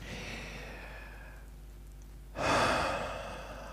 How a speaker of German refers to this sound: Genau das. Atmen.